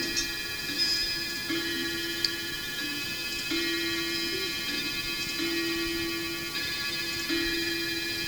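A clock ticks softly and faintly at a steady, regular pace over a constant low electrical hum with no one talking.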